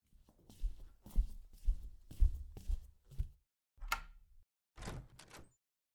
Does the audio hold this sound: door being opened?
yes